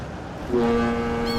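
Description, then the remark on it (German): Busy Hamburg harbour, Germany, in round-the-clock operation: a steady wash of rumbling background noise, then a deep ship horn sounds one sustained, low, droning blast that holds to the end. No one speaks. “Der Hamburger Hafen. Hier ist rund um die Uhr Betrieb.”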